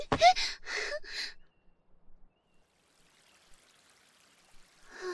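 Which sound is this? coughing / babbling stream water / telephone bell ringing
babbling stream water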